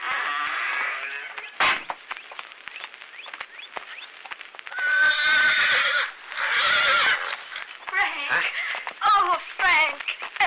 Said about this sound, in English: There's someone waiting over there with a horse for you.